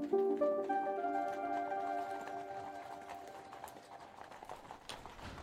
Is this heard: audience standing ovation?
no